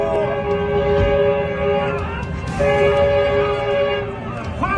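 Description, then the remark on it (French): A train horn blares loudly and continuously, a harmonic blast held with brief breaks, over the rumbling rush of an approaching train that cannot stop quickly, bearing down on a small plane whose lone pilot is stuck in the cockpit. “Un train arrive, il klaxonne tant qu'il peut, mais il ne peut pas s'arrêter évidemment aussi vite.”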